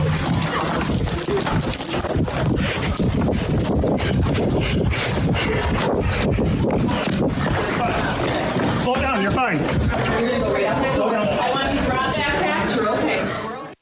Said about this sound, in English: You are hearing students climbing out of a window. They see a police officer. It just hurts me hearing them scramble, trying to save their own lives.